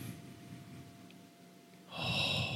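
A close, breathy sniff drawn in through the nose, beginning faintly and swelling into a louder, airy inhale near the end, with no one speaking.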